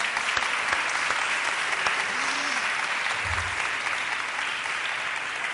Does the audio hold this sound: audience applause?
yes